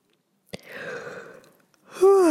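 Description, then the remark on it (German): A breathy yawn: a long airy inhale that fades out, then a short pause and a louder voiced exhale sliding downward in pitch at the end. “Bei mir kommt direkt ein Gähner, eine Entladung.”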